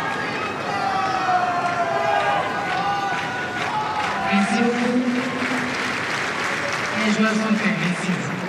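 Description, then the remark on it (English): A tennis crowd at a Djokovic vs Cirundolo match keeps up a steady roar of voices, whistles and scattered cheers, with rising shouts and a wavering hum layered through the dense, continuous noise, as the umpire tries to quiet the crowd. “Umpire just quieting the crowd in touch.”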